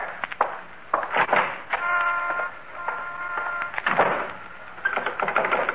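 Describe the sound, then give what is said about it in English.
A front door closes, followed by a series of sharp mechanical clicks and rattles as its lock is turned, with a brief creaking squeak in between; no one speaks. “And now the front door.”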